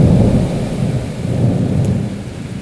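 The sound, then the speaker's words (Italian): A steady thunderstorm: a deep rolling rumble of thunder beneath continuous heavy rain drumming on rooftops, with wind blowing leaves about, and no voices. “I lampi illuminavano il cielo viola, la pioggia batteva sui tetti e il vento trascinava le foglie in aria.”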